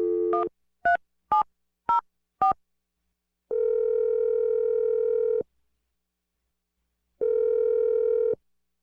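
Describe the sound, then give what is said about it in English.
Five quick touch-tone beeps as the radio show Brooke and Jeffrey in the Morning dials a phone number to call a business named Farm, then two long steady ringback tones separated by a pause of silence, clear with no talking. “So I'm going to dial the phone number.”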